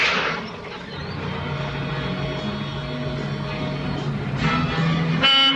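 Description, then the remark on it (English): A car horn blares once near the end, a loud, brassy toot from a car parked beside the Safari Club nightclub, rising over a steady low rumble of an idling engine and street traffic. “When Bopper honks, Mike steps out of the nightclub.”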